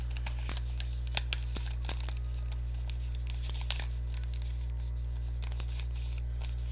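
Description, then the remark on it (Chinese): Quiet crinkling and tearing of packaging as a parcel holding a three-color pen and a coin purse is opened, with scattered sharp rips and rustles over a low steady hum, no one speaking. “好，所以你们陪我开了三色笔跟零钱包。”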